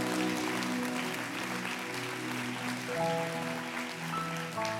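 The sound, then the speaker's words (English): A crowd claps together in a steady, dense wash of applause at a church Passover service on Good Friday. The applause holds at a fairly even loudness, with faint tonal hum and murmurs beneath, and no clear speech over it. “Give them a clap, will you?”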